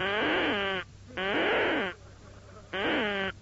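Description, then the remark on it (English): A Dutch 1944-pattern Bakelite bird-call whistle, issued in 1944, blown in three loud, reedy, buzzing blasts, each just under a second long, with a wavering pitch that dips and rises again, separated by short pauses. “Now, I still have with me at this very moment the bird noise with which I was issued in 1944. And this is the noise it made.”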